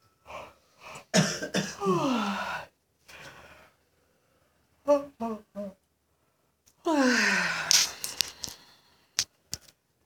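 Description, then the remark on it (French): Two long, drawn-out yawns with a sliding, groaning pitch, fairly loud, separated by a few short breathy vocal sounds and faint clicks. “On continue jusqu'à ce que tout le monde bâille.”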